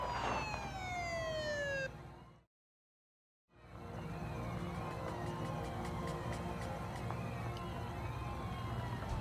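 The siren of an approaching Seattle police patrol car wails with sweeping, falling tones, cuts out into a brief silence, then resumes amid steady traffic rumble, loud throughout.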